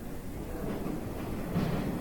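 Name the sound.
train passing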